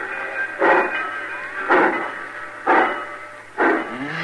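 A train pulling out of a station, its engine giving four heavy, evenly spaced chuffs about a second apart over a steady mechanical hiss and hum, fairly loud, with no voices.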